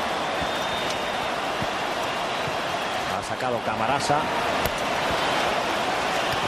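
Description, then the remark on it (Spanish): Hail pours down steadily across a stadium in Madrid during a match, which referee García Aranda stops in the 34th minute, a dense, constant crackling patter filling the whole scene, while a commentator briefly speaks over it midway through. “Un granizo. Lo que está cayendo en estos momentos.”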